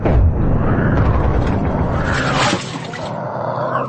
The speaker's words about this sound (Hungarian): Ágyukat tölts! De hová célozzunk? A közfelhő közepébe! A lövésekkel felriasztjuk, jó célpont válik majd belőle. Vigyázz! Kész! Tűz!